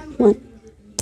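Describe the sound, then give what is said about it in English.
A voice counts down, then a single short, sharp crack rings out, bright and crisp, as a seal breaks open. “Let's see if we can hear the sound of the seal breaking.”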